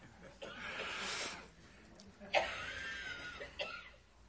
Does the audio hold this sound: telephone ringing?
no